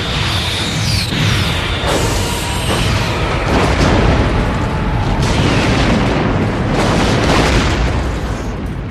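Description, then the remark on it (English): A loud sci-fi explosion of a Klingon Bird of Prey starship rumbles on as a series of heavy, repeated booms, with whooshing sweeps and crackling bursts layered over a sustained deep roar. “Yes, I love that distinct boom, boom, boom, boom. It's perfect. And what I love even more than the explosion itself is how uniform it is.”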